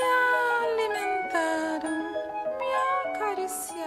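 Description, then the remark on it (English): A 1970s Brazilian children's song about a cat, from a 1977 play, plays with a clear sung melody of held, wavering notes over steady accompaniment, fairly loud throughout, with brief pauses between phrases. “It's the story of this bold female cat who leaves behind the comforts of her owner's home and joins a troupe of animals singing in town.”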